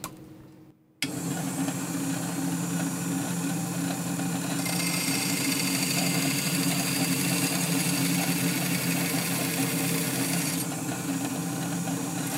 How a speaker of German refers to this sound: Das ist meine Diamant-Bandsäge und damit säge ich die Flaschen durch.